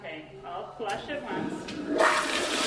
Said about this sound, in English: Okay, I'll flush it once. Flushing to one!